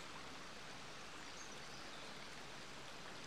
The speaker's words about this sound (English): The River Dove is by no means a large river. In fact, I'd probably go as far as saying it's more like a large stream than a river.